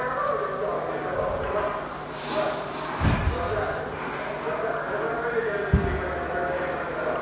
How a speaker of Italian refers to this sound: Ecco, lei dice che avanzano battendo i manganelli sugli scudi, sì. Ci descrive qual era... E lì si è creata una situazione abbastanza psicologicamente forte, perché c'era abbastanza rimbombo, molto più di quanto appaia qui nel sonore